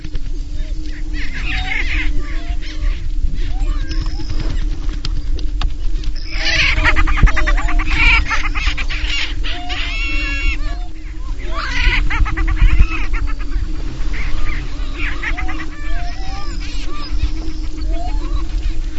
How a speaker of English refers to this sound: And I'm going to play a sound of the prairie chickens. They're on the booming grounds right now. And the sound is just unlike anything you've heard before if you haven't heard it.